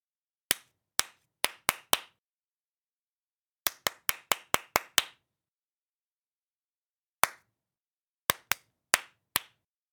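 Crisp hand claps by a teacher demonstrating clapping for listeners to copy, in short rhythmic bursts: a group of five, a quicker run of about seven, a lone clap, then five more, with silent pauses between and no talking.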